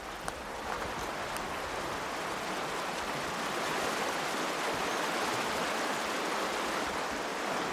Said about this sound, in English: It's a glorious place, and you can hear the river really clearly now, which is lovely.